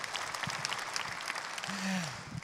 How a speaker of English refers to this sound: I know. We clap because it's like, that's cool, but what does he mean?